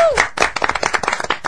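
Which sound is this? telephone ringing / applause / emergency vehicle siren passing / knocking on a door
applause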